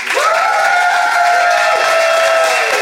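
The Laugh Out London audience applauds loudly and steadily to vote on which side of a dispute is right, dense clapping filling the whole few seconds, with a sustained high cheer or whoop ringing over the top.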